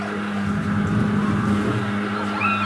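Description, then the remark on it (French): A street disinfection truck, fogging the streets to kill cockroaches and mosquitoes, drones loudly and steadily, a constant low mechanical roar with a faint whine rising near the end, and no voices. “Ah, ce bruit, c'est le camion qui sert à désinfecter les rues.”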